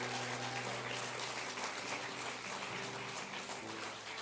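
Steady audience applause, a dense crackle of many hands clapping that fills the whole clip at an even, moderately loud level, with a faint low hum underneath and no one speaking.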